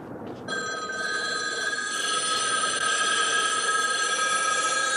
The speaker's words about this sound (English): standing alone in a big intersection in downtown Los Angeles, imagines that all the payphones start ringing.